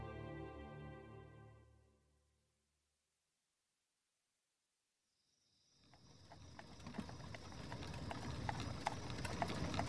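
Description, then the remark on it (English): After a stretch of fading music and silence, the horses of Ben McCullough and the Rangers clip-clop along a path high in the hills south of Saltillo on a cold February night in 1847, in a steady, uneven patter, with crickets chirping continuously in the background. “On a cold February night in 1847, Ben McCullough and the Rangers reined in their horses on a path high in the hills south of Saltillo.”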